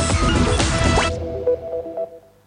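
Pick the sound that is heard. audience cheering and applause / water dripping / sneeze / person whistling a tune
water dripping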